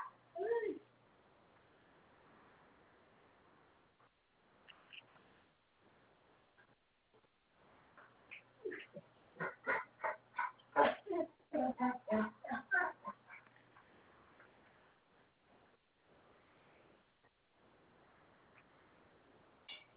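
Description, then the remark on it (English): Dogs let out a rapid run of high, sharp yelping barks in the middle, with softer whimpering noises before and after, coming in uneven bursts. “Oh, rotten dogs.”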